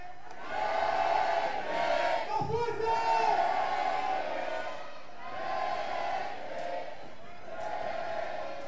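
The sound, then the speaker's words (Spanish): A large crowd of Recreativo de Huelva fans cheers and chants together in a plaza in Huelva, warming up as the team bus is about to arrive. A dense roar of many voices rises and falls in repeated swells, with loud shouts breaking through near the start. “Vamos a ir calentando para que se os escuche en la plaza del punto, en toda Huelva, a ver cómo suena un recre.”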